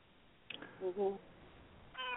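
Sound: cat meowing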